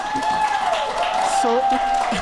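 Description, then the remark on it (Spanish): Steady audience applause fills the whole stretch as a dense wash of clapping, with a thin sustained whistle-like tone above it and a voice briefly speaking underneath. “Sus aplausos nos alimentan.”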